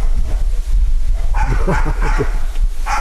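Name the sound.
dog barking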